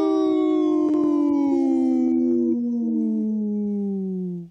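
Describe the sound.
A person imitates a wolf howl: one long, loud sustained tone slowly gliding downward in pitch with rich harmonics, held for several seconds before cutting off abruptly.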